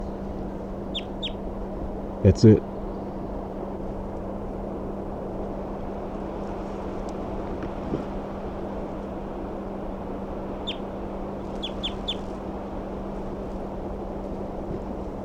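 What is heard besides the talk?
crossbill flight calls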